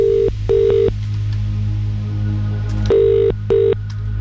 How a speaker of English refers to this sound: I really hope this is you about to receive the phone call from me. Remember, if your phone is ringing, it could be me.